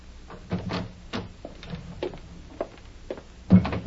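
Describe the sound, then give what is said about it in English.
A man's footsteps approach up a walk to a front door at an uneven, unhurried pace, each a dull thud, followed by a louder knock-like clunk as the front door is opened at the end. No one speaks. “Then he stepped up the walk to the front door.”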